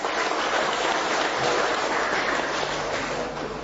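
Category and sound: crowd, round of applause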